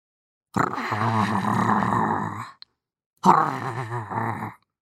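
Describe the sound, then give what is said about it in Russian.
Two loud, drawn-out snores in an attic, each about two seconds long with a brief pause between them. The rough, groaning tone suggests a human voice imitating snoring. “Чердак встретил их исполинским храпом.”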